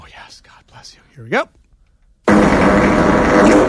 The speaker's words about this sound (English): that is your prototypical … sleep talk audio fart. It goes up at the end.